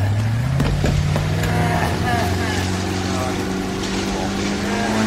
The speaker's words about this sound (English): Listen, don't try to stand too quickly. Just lean back and let the boat pull you up.